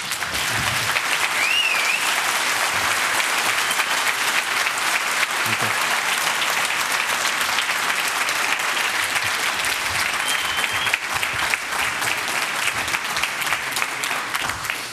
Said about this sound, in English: Yeah, applause indeed.